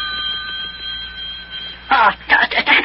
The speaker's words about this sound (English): Telephone's ringing.